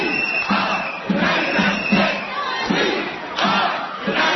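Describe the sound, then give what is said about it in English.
A large protest crowd holding GE accountable stands in the middle of Jefferson Avenue, stopping traffic, and shouts together in loud, rhythmic bursts, a dense wall of many voices rising and falling about twice a second with no clear words. “were ushered to the much larger crowd that was waiting for them outside”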